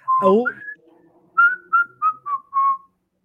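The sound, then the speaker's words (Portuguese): Someone whistles the opening theme of a classic TV series: a swooping opening phrase, a pause, then five clear, evenly spaced notes stepping gently downward, with no talking. “O tema da série clássica.”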